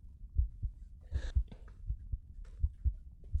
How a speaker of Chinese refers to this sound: 感受我手心的温度，还有心跳声。因为一想到可以和你牵着手躺在你身边呼吸你身上的香气，就让我好开心，心跳也加快了呢。